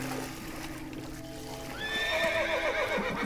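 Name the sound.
horse neighing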